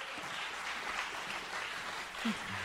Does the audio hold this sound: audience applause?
yes